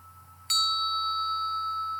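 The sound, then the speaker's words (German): A single bright bell strike rings out and sustains with steady, shimmering overtones, its long resonant tail hanging in the air like a temple bell over a low, constant hum. “mit dem langen Nachhall wie einer Tempelglocke gleich.”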